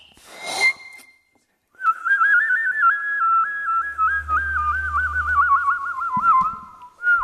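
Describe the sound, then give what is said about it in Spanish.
A person whistles a bright, warbling birdlike tune imitating a goldfinch, rapid trills rising and falling for several seconds, close and fairly loud, after a short breathy burst at the start. “Haces como un jilguerillo, como un pajarito.”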